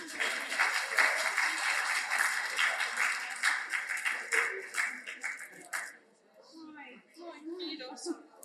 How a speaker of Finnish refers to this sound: Ja aplodit voittajille.